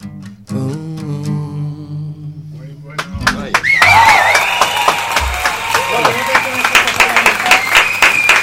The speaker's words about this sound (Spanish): Aplausos sinceros, muchas gracias.